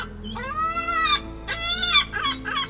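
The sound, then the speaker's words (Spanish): A seagull with a broken right wing, just struck by a thrown stone, squawks several times in quick succession as it tries to fly. The calls are loud: a long drawn-out cry followed by shorter, harsh calls, with no talking. “La gaviota lanzó un graznido y trató de volar, pero le había roto el ala derecha.”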